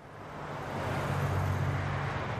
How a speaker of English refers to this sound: Back in Kalawa, a fleet of PG&E service trucks rumbles past the neighborhood where the streetlights will turn off next week.